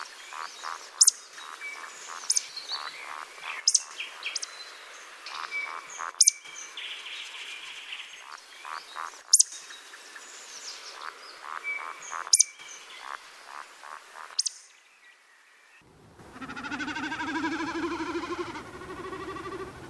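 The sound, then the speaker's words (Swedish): In the morning in spring, a dense chorus of thousands of frogs trills and croaks steadily, punctuated by sharp repeated clicks, then gives way to a rising, pulsing, wavering hum of a diving common snipe drumming, steady and moderately loud. “Att på morgonen höra enkelbeckasinen dyka samtidigt som tusentals gloder sjunger i en stigande och sjunkande julsång över våren, det är sällsamt.”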